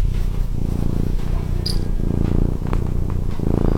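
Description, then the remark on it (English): A small cat purrs steadily, a low rumbling drone with a pulsing rhythm that continues throughout, with no voices present. “Ah, this little cat. You might not know about this little cat.”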